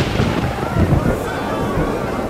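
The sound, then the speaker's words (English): A deep, rolling rumble of thunder fills the space, a low, sustained roar with crackling texture that swells slightly and then holds steady without a break. “The season of rain is over, but I'm going to pray to God, and He'll send thunder and rain, a sign to convince you of the great wrong you have done to God by asking for a king.”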